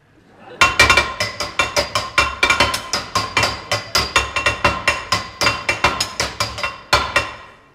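A hammer beats rapidly and steadily on a metal tap, with roughly three or four bright, ringing clanks per second continuing for several seconds, loud and close, with no voices.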